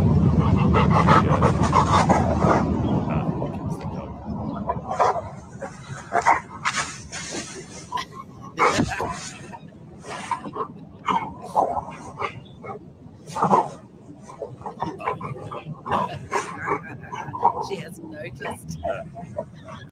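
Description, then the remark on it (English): A dog in a video clip of a woman doing yoga pants and lets out short barks and yips in quick, irregular bursts, with some human voices mixed in at times. “I mean, that dog is my hero.”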